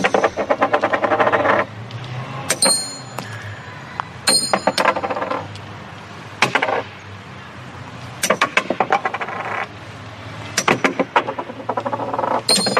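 Metal tokens thrown in the frog game (joc de la granota, also called rana or sapo) at a metal frog repeatedly clatter against metal and wood in several rapid bursts, mixing dull wooden knocks with bright, ringing metallic clinks, separated by short quiet gaps. No one speaks.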